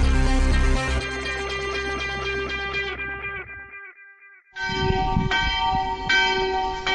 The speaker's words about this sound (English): Well, that unmistakable sound of a chapel bell is just behind me. I'm in the little village of Selisberg, about 850 meters. That's nearly 3,000 feet in central Switzerland.